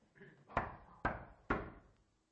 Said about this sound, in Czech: A zaťukám.